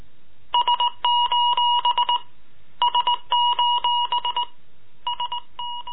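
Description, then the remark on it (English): Morse code beeping out an SOS distress signal from the Titanic: a steady high-pitched electronic tone keyed into quick short and long beeps, sounded in three repeated bursts with brief gaps between them. “Morse code, SOS.”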